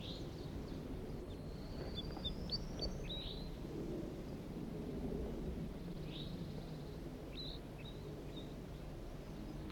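wild bird flock calling

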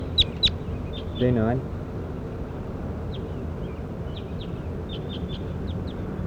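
bird call being recorded

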